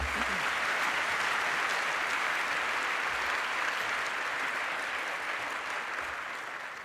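Sustained audience applause fills the whole stretch, a dense steady wash of many hands clapping at close range, holding loud and even before tapering slightly at the end.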